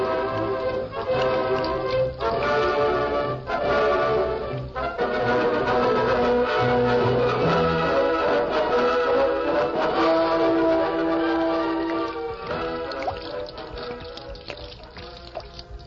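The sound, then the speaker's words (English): Coal oil glugs and gushes steadily from barrels, 60 in all, being poured into a river: a loud, continuous pouring with a hollow, resonant ring that shifts in pitch as it flows. No one speaks. “We're going to pour all 60 barrels of it into the river.”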